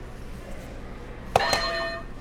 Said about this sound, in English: Ah, only you can choose which buzzer to click. How about you click two at once?